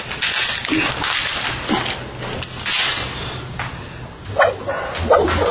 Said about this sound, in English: Great, great Foley. Great sound effects. Love that whip out of camera.